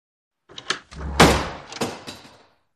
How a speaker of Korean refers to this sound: 벌컥 열린 낡은 문이 걱정되었다.